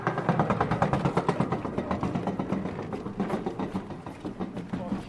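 A rowing boat is hauled across a steel roller, making a steady, fast rattling clatter with rhythmic mechanical pulses over a low rumble, fairly loud and continuous for several seconds.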